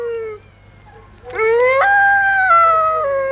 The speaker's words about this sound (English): Dingoes howling for that story.